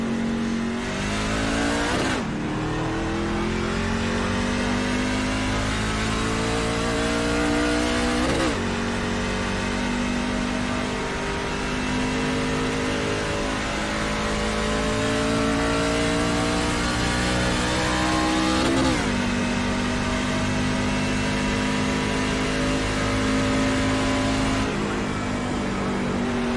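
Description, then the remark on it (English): Loud, continuous engine roar from racing cars during a race, with pitch sweeping up and down as they rev and shift gears several times; no voices, just steady motor noise throughout. “Race will resume at the end of this lap.”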